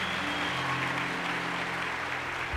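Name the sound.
audience applause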